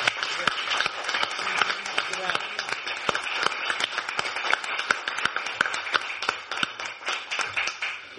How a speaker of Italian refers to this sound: per il quale vi invito a fare un caloroso applauso.